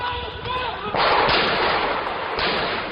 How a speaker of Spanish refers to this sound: Dos hermanos, Saïd y Cherif Kouachi, encapuchados y armados con fusiles de asalto, efectúan hasta 50 disparos al grito de «Alá es grande» en la sede del semanario satírico Charlie Hebdo, una revista que había publicado caricaturas de Mahoma.